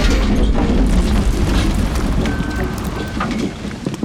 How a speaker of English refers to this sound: Okay, that's good. All right, dump the donuts.